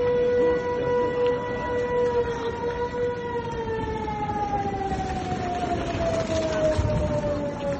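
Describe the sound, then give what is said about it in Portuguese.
A loud, sustained air raid siren wails steadily in Ukraine, its tone slowly sliding downward over a low rumbling background, with no voices present. The sirens sounded every 5 to 10 minutes, warning people to take shelter underground. “Eu creio que a coisa que mais vai ficar nas nossas cabeças, não só ucranianos como estrangeiros que estavam lá, acho que eram os sons, os alarmes, os sons das sirenes, porque aquilo soava em 5, 10 minutos.”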